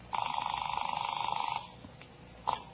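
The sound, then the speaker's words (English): A telephone rings with a fast, warbling electronic trill lasting about a second and a half as a woman calls a 16-year-old girl, followed by a brief click and a short clatter as the receiver is picked up. “When Mrs. Archuleta heard about Lois, age 16, she called her on the phone.”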